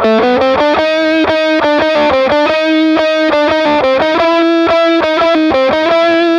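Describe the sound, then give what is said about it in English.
A heavily fuzzed electric guitar, played through a Not a Gamut fuzz pedal with its gain maxed, plays a quick riff of repeated notes and short bends, thick and saturated with rich buzzy overtones, loud and continuous with no voices. “So this for me is more what I would call, I guess, a normal fuzz sound.”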